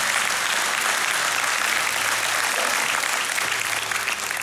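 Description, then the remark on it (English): A church audience breaks into sustained applause for Jesus during a sermon, a dense, steady wash of many hands clapping at full volume for several seconds with no voices rising above it. “And that, yeah, you can clap for that.”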